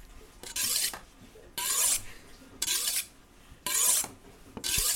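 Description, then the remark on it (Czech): A knife saws through a roast turkey being carved for Thanksgiving at a family home on Staten Island, in steady back-and-forth strokes, five bright, hissing rasps about a second apart with quieter pauses between, and no one speaking. “David se právě chystá porcovat krocana a my toho budeme svědky.”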